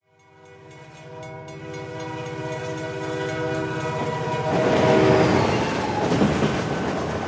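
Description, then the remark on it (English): An Amtrak passenger train travelling from Washington, D.C. to New York City in 1988 blares its horn with a long sustained chord, then gives way to the loud, steady rumble and clatter of the train rolling along the rails. “Sean Puffy Combs is hiding out in the bathroom of an Amtrak train on his way from Washington, D.C. to New York City.”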